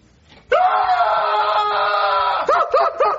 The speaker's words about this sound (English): I'm not doing anything. You're screaming. No, I'm not.